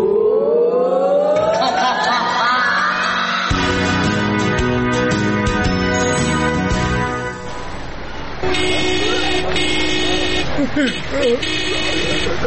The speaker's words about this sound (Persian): ترافیک، او ترافیک